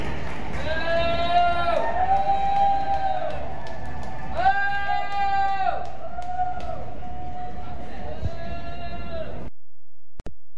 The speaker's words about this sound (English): there were two people in the stands and they're both booing.